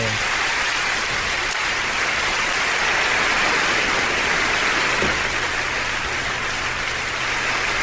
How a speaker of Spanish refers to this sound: Un aplauso, por supuesto, a Peter Reynolds por este cuento tan bonito y también por Vashti.